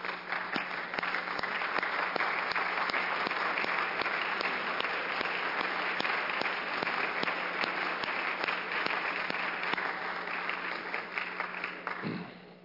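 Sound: applause in legislative chamber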